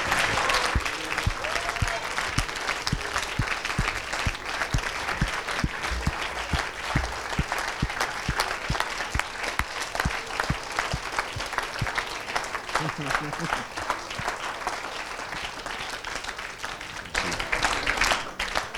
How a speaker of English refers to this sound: I feel like clapping. That's probably not enough. But let's clap the King of Kings. Let's declare who he is, because he is wonderful, marvelous.